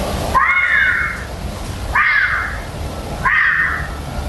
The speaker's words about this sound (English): YouTube vixen screams, it's the same sound, says Dean.